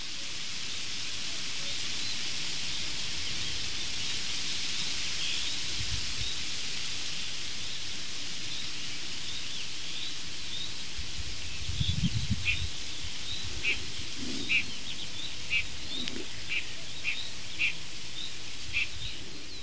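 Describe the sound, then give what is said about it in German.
Faint, distant bird calls repeat in a quick series toward the end, set against a steady wash of rustling leaves in the wind. No one speaks. “Vielleicht hören wir auch in der Ferne noch den Kuckuck, diesen außergewöhnlichen Vogel.”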